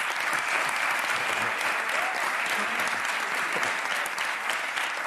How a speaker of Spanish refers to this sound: Aplausos.